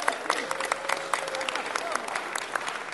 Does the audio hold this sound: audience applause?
yes